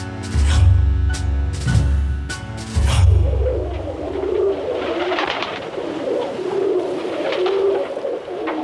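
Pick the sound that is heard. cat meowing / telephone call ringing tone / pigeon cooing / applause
pigeon cooing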